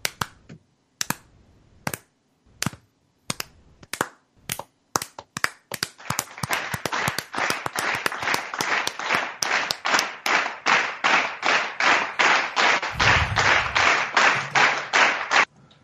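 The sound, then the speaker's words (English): A slow clap from a single pair of hands: sharp, widely spaced claps that steadily speed up into a rapid, even patter of clapping lasting several seconds, with no voices. “Do they get a slow clap?”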